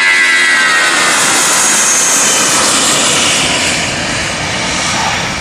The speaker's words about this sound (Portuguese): O nosso voo TAP rumo à salvação da empresa vai descolar dentro de momentos.